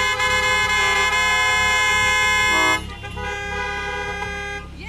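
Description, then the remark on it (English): A car horn blares in a long, loud, steady honk that cuts off partway through, leaving a quieter lingering tone and low rumble behind it. “Your car needs some self-esteem.”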